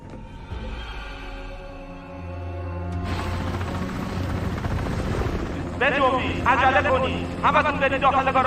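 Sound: helicopter rotor noise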